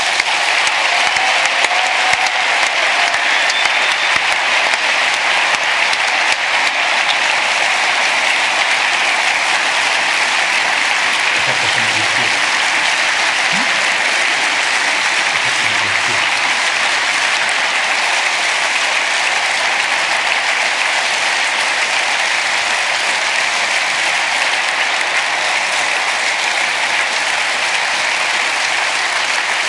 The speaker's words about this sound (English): A big round of applause for the angels, please.